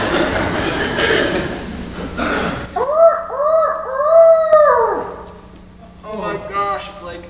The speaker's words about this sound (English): Stupid rooster calls every morning, too.